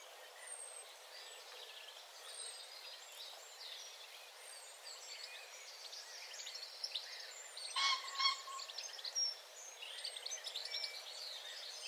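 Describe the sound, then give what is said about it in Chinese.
Several birds chirp and sing continuously in a park, their overlapping calls soft, with a brief louder burst of song partway through; no one speaks. “也许是鸟儿在歌唱，也许是微风吹着树叶沙沙作响。”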